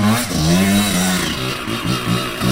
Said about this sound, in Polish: Jak to jest na tym jednym motocyklu? Czym jeździcie w ogóle? Suzuki RM85.